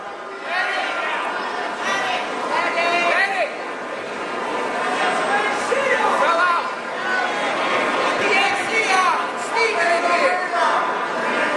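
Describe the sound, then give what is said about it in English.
A huge packed crowd in the Oaks Expo Center calls out for a medic, overlapping shouts rising above dense, steady chatter that fills the large, echoing hall for the whole stretch. “Can you hear them calling medic?”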